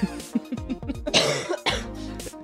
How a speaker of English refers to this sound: You good? Yeah, I'm good. Coughing. She's coughing.